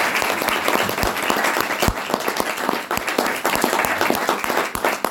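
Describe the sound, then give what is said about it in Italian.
An audience breaks into sustained applause for writer Valerio Evangelisti, many hands clapping in a dense, steady wash with sharper individual claps popping out, loud, with no talking over it. “E se possiamo gli facciamo un applauso, ricordo.”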